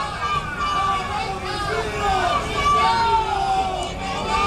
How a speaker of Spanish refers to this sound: Vamos a escuchar este sonido ambiente mediático justo a la entrada, no a la salida, de silbidos y abucheos.